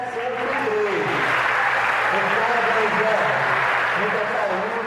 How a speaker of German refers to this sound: Der Direktor nennt nach dem Absingen der Hymne die Kinder, die heute Geburtstag haben. Es wird geklatscht.